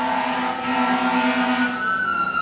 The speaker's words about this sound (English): Sounds like quite an emergency there. Got the fire trucks going out.